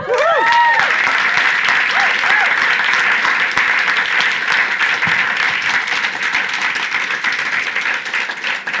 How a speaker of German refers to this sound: Und ich kenne wenig Menschen, die einfach in dieser Demut und Liebe uns dienen. Herzlichen Applaus.